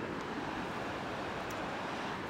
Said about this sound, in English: We're at Cave Creek Trail. We're next to the river. Can you hear it?